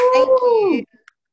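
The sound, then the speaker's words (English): A single drawn-out cat meow, loud, holding a steady tone before sliding down in pitch at the end, followed by a couple of faint soft clicks. “The cat.”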